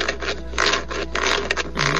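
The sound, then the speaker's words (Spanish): Harsh, rasping scratches like the claws of a dog or turkey dragged across metal roof sheets come in about five uneven bursts over two seconds, steady and fairly loud, with no voices. “Y muy claritamente escuché como las garras como de un perro, como de un guajolote, rasgaban las láminas.”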